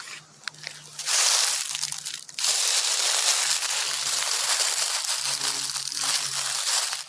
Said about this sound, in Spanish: Este es el sonido que en otoño cuando las hojas se caen y cuando las pisas.